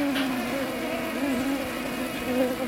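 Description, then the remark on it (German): A dense, continuous buzz of many swarming honeybees, a steady droning hum with slight wavering pitch and no voices. “Das sind schwärmende Bienen.”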